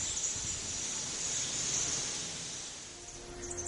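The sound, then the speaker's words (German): Ambience of an indoor tropical rainforest hall: a steady, moderately loud high-pitched hiss, like insects or misting water, over a soft low rumble, with faint rustles and no voices. “Die Dunkelheit und die Stille des kalten Eingangstunnels verstärken den Effekt der tropischen Wärme, der Farben und der Geräuschkulisse des Regenwaldes, sobald man die Halle betritt.”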